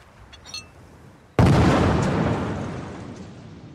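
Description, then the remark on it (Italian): After a few seconds of near quiet with faint small noises, a single loud explosion of an explosive device erupts abruptly as a man picks up a glass bottle wedged among seaside rocks, its broad roaring blast slowly fading over the next couple of seconds. “L'esplosione è devastante.”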